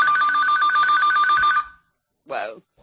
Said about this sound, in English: Whoa! Yeah, my apologies. That's another phone.